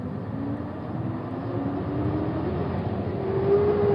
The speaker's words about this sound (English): I waved to Stan as the bus took off.